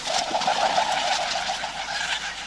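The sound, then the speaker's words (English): A kereru, a New Zealand pigeon, gives a low, soft cooing call, steady, over a constant hiss of outdoor background noise. “In 2018, the citizens of New Zealand voted the Kereru as Bird of the Year.”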